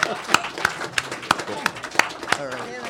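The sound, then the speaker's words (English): Thin, scattered audience applause for panelists: a handful of sharp, irregular claps spread across a few seconds, with murmuring voices underneath and someone starting to speak at the end. “Round of applause.”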